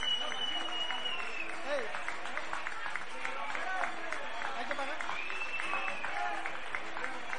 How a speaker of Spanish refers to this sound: Pero igualmente le damos un fuerte aplauso a nuestro vecino